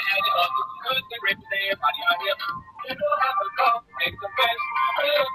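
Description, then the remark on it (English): A phone ringtone for an incoming call plays a busy, bright melody for several seconds, steady and fairly loud, with dense voice-like tones that sound as if it could be a sung or vocal tune. “you guys want to hear my ringtone? You can hear it now.”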